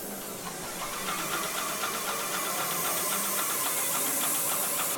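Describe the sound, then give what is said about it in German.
A Conbotics painting robot sprays with an airless sprayer, painting over green scribbles on a wall and leaving out windows and doors: a continuous, fairly loud hiss over a mechanical motor hum, with a quick, regular pulsing running steadily throughout and no voices. “Der Roboter überstreicht mit der sogenannten Airless-Technik sauber Amayas grüne Schmierereien an der Wand.”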